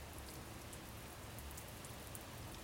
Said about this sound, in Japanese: 傘に弾ける雨音が優しいです。雨の音が耳の奥に染み込みます。 雨の音が心の奥に染み入ります。